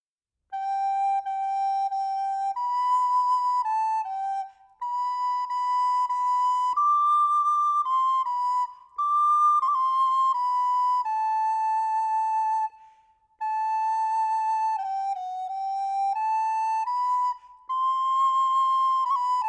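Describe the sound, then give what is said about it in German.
A recorder plays a simple, slow melody of high, steady notes, grouped into four phrases with brief pauses for breath between them. No one speaks. “Dann hörten sie Nana auf der Blockflöte spielen.”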